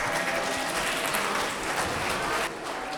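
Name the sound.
audience applauding students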